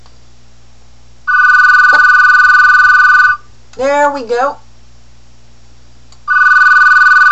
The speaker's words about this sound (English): For some reason, it makes a strange clicking noise when it rings. It never did that, but it's a good indication if the ringer's off.